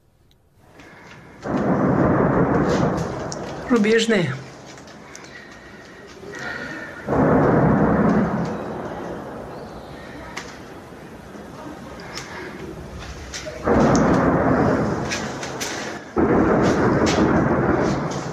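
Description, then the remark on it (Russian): Several heavy, rolling booms of distant heavy-weapons artillery fire by occupying forces on the Kreminna front sector, less than 10 km from Rubizhne, likely firing on Kreminna forest, come at irregular intervals, each swelling into a long rumble that fades slowly, with a person speaking briefly between them. “как интенсивно оккупанты производят выстрелы из тяжелого оружия.”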